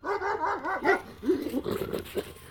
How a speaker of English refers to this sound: Nobody saw the UFO in Cornridge that night, only Bricky. He ran into the field and barked loudly.